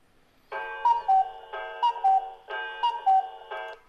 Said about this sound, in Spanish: Ese es el cuco.